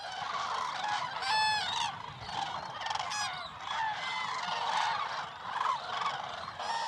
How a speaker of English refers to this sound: These are common cranes, thousands upon thousands of them. They're about as tall as a toddler with a 6-foot wingspan.